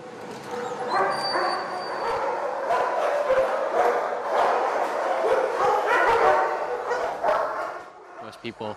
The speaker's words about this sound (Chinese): 我们将要进入犬房，那里很吵闹，因为狗一看见有人进来就都特别激动。